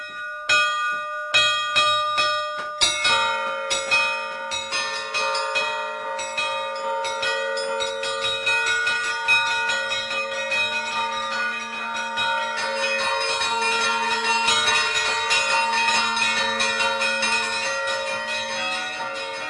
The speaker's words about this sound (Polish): Muszą dzwonić, bo nadeszła pora na to, żeby dzwon na dzwonnicy w Supraślu odezwał się.